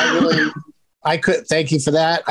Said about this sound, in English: That was a cough button. That wasn't real. I pressed mute. I thought I pressed mute, but I guess I coughed over the mute.